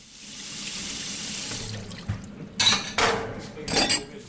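Water runs steadily from a tap into a sink, then a few sharp clinks and clatters of dishes follow in short bursts nearby, with no one speaking.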